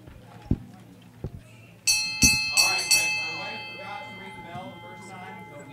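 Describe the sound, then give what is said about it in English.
A bell rings out loudly to mark breaking the attendance record, 301 people that morning, struck about four times in quick succession, its bright metallic tones lingering and fading, after a couple of dull knocks and with faint voices in the background. “We always ring the bell whenever we break the attendance record.”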